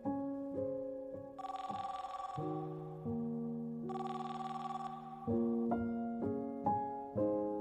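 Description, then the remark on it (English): A telephone bell rings in two bright bursts, each lasting over a second, over a backdrop of sustained, shifting musical tones. No one speaks. “Thorpe and Truman had to clear the area of reporters and make one very difficult, painful phone call.”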